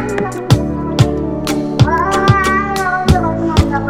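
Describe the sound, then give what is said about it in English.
Drawn-out, pitched meows, apparently a voice imitating a cat, sound over music with a steady, punchy drum beat about twice per second. The meows are loud, and no one talks. “They're eating the cats. Meow, meow, meow, meow.”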